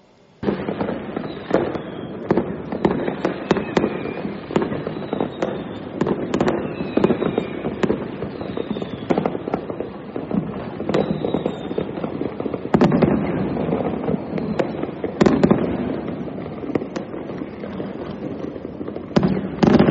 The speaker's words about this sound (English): This magnificent display of firecrackers being fired. 可以说是满地开花这样哦，很壮观，整个那个龙华州好像都在放烟花这样。 So indeed, you can see that this the firecrackers are being fired pretty much throughout the area.